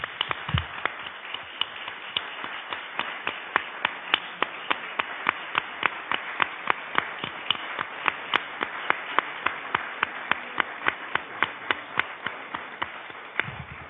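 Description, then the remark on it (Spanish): An audience applauds steadily for about fourteen seconds, a dense patter of sharp claps with crisp, evenly spaced accents and no voices over it. “pues ahora vas a recibir de todos nosotros un aplauso por todo ese conocimiento y eso que nos has aportado.”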